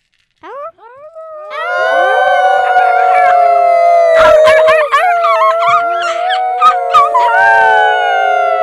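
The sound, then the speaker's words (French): A chorus of wolves howls together, several long wavering voices overlapping and rising in pitch, with short yips breaking in midway; loud, sustained for several seconds with no talking. “Et là, on commençait à entendre une drôle de voix.”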